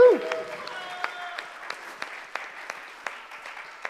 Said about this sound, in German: Und jetzt ein bisschen noch intensiveren Applaus, aber noch nicht...